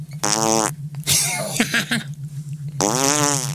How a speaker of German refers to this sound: Ein Furzkissen? Großartig. Ja, das habe ich ja schon ewig gesucht.